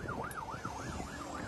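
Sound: police patrol car siren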